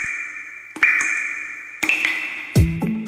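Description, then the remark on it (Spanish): Water drops falling one after another, about five or six clear plinks with a bright, ringing tone that lingers between them, the last few deeper and more hollow, in an Aguas Andinas water-saving message. No talking. “¿Escucharon? Cada gota cuenta.”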